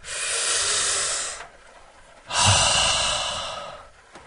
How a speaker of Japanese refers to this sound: ちょっと最初からテンション上がりすぎちゃって一回落ち着きましょうね。なんか多分オープニングのトークなんか変な感じに喋ってたと思うなんかこうすっごい舞い上がった感じになったんで一回落ち着きます。深呼吸。